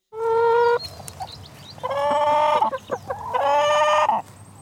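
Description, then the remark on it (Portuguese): A hen clucks, letting out three loud, drawn-out squawking calls with a few short clucks between them, over a faint low rumble and no talking. “Sinto muito por isso ter acontecido, disse a galinha.”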